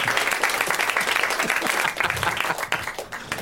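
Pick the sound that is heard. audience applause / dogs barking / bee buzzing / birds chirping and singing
audience applause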